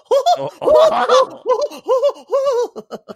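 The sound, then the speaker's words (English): A person's voice imitates the cartoon duck Daffy Duck with a rapid series of raspy, nasal squawks, about half a dozen loud bursts, the second longest and harshest, trailing into quicker short quacks. “It's like that Daffy Duck.”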